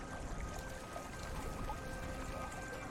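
water flowing

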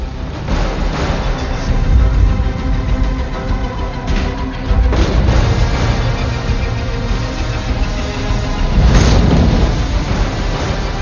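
explosion

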